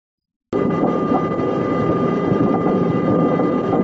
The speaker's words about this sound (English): the nosedive has begun. You can hear the engines whining. You can hear the air whizzing past. You can hear metal shaking. You can hear the hull kind of, you know, maybe even coming apart a little bit.